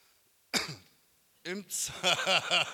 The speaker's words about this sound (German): Das war ein Räuspern.